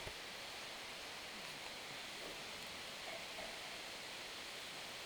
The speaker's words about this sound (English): I just love the sound of the rain. Isn't that soothing? It's like a healing balm to the soul.